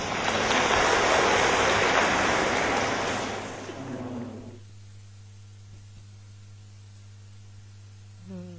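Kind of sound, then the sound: crowd, audience applause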